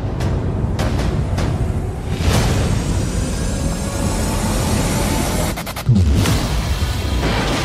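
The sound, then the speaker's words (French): Loud explosions from the trailer for the film Train to Busan (Dernier Train pour Busan) burst out one after another over a constant heavy rumble, several sharp blasts early and another cluster near the end, with a dense, dramatic mix and no talking. “Beaucoup d'explosions dans la bande-annonce.”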